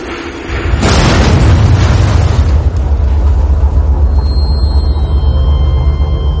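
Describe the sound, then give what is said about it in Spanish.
A bomb thrown by a second assassin goes off beside Heydrich's car in a single loud, sharp blast, followed by a heavy, low rumble that lingers and slowly fades over several seconds, with no voices. “La bomba lanzada por un segundo asesino explota al lado del coche.”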